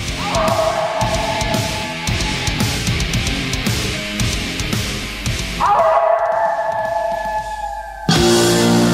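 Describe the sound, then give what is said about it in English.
A pack of wolves yipping and howling together, long wavering howls rising over a dense, chattering chorus of rapid yips, loud with no voices. “Has the …'s show gone to the dogs? Those are wolves.”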